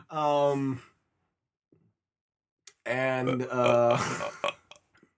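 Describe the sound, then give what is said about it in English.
Two drawn-out, croaky burps made under the breath: a short one first, then after a quiet pause a longer, rougher one with a few clicks trailing at the end. No speech. “I was burping or laughing maniacally, really under my breath.”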